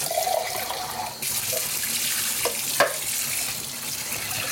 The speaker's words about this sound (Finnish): Ja kevyt huuhtelu myös näille pavuille ja myös niin, että saat sieltä purkista joka ikisen pavun mukaan tähän ruokaan.